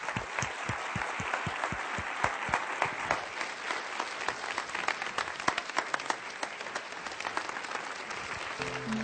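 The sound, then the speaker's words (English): An audience at CFBC breaks into steady, dense applause given to God, holding for about nine seconds, many hands clapping at once with sharper individual claps standing out. No one speaks over it. “would you just join me in a second and let's just let a bunch of sticks give some applause to God, because God is really the one who's behind all this.”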